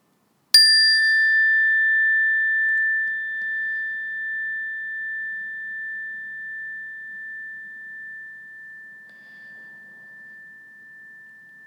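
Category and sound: signal or alarm, meditation bell ringing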